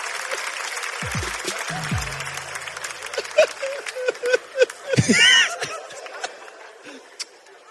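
An audience applauds in a dense, steady clatter of clapping throughout, with scattered laughter, a few whoops and shouts rising above it midway before the clapping thins out.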